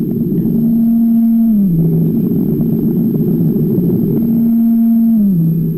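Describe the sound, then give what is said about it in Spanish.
Blue whale calls: two long, low moaning tones, each holding a steady pitch before sliding downward, repeated over a constant loud rumbling background noise with no voices. “Es el animal más grande del planeta. Puede pesar 180 toneladas, lo que equivale a 30 elefantes.”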